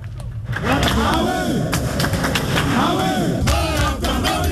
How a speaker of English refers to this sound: Some teachers and members of the National Council of the Ghana National Association of Teachers booing the Deputy Minister for Education, Professor Kingsley Nyako, at their annual National Council meeting in Kumasi.